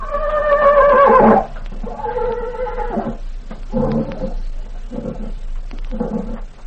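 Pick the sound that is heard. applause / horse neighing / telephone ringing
horse neighing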